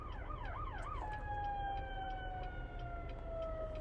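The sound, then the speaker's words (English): An ambulance siren yelps rapidly for about a second, then settles into a long, slowly falling wail over a constant rumble of street traffic where people honk at each other. “Oh, there's police sirens. People are just honking at each other. There's an ambulance.”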